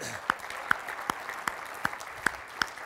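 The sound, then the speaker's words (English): An audience at the 10th anniversary of the Telecosm conference breaks into a round of applause for Ashby Foote, a dense wash of clapping with sharper claps standing out at a steady, regular beat throughout the few seconds. “So a round of applause for Ashby Foote.”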